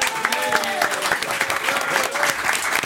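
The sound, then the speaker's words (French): Sustained audience applause welcoming playwright Halil Vardar, a dense crackle of many hands clapping at steady loudness throughout, with a few faint cheers or voices rising briefly above it. “On applaudit Halil Vardar.”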